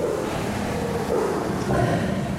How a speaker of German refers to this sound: Wissenschaftler haben das übrigens mal gemessen. Das Brüllen eines Tigers ist manchmal mehr als 100 Dezibel laut.